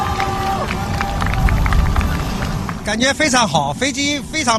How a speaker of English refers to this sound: That's a shot from China's central television. The plane just returned there from its flight. Hundreds of people cheering on the tarmac and applauding.